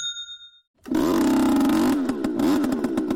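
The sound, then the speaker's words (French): A sharp ding rings out, then after a short pause the small engine of a leaf blower converted into a killing machine sputters to life, running loud with a buzzing, rattling drone that pulses and clatters. Hooked to a hose, it pumps carbon monoxide into rabbit burrows in a Melbourne suburb. “Ce moteur, c'est celui d'une souffleuse de feuilles reconvertie en machine de mort.”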